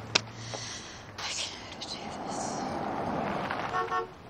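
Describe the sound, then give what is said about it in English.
After a sharp click near the start, a man who has just pulled up in his car outside a townhouse gives a brief horn honk near the end, rising over a steady hiss of outdoor background noise. “He honks and waves, then gets out with an Owen and Bruce.”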